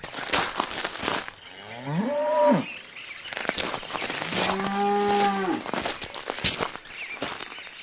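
Two long, drawn-out cow moos ring out loud, the first fading into a second deeper bellow, with footsteps and faint rustling around them in an outdoor countryside scene as a person arrives in the countryside.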